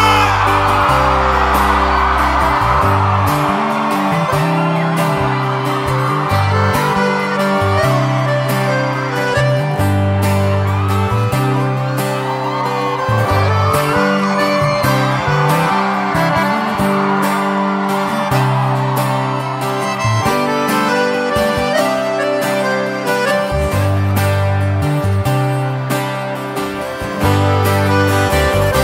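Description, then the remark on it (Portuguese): A live crowd in Santa Fé do Sul at a concert cheers, whoops and yells continuously over loud, pulsing music with heavy bass, the noise staying full and steady throughout without any clear break. “Feliz, solta o gritão, faz muito barulho aí, Santa Fé do Sul.”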